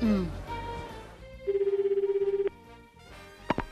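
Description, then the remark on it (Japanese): A single ringback burst from an outgoing phone call placed from America: a steady, fluttering electronic tone lasting about a second, heard through the earpiece, then a sharp click as the line is picked up. “これしか手はないか。俺、電話かけてくる。”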